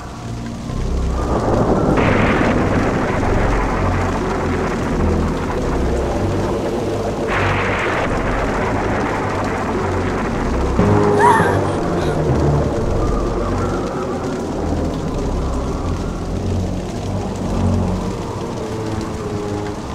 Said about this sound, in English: Rain drenched her in a tremendous downpour as the sky roared with thunder and lightning.